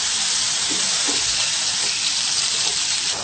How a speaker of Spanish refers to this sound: A continuación echamos el queso de soja o tofu. Echamos todo. Luego esperamos freír un poco para que le salga todo el agua que contiene el queso de soja.